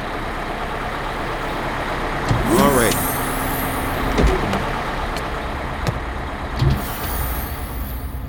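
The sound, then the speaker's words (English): A large bus rumbles as it pulls up to a bus stop, with a squealing brake tone and sharp hisses of air brakes as it comes to a stop, steady engine noise throughout. “Does this bus go to Walmart?”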